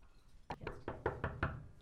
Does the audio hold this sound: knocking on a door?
yes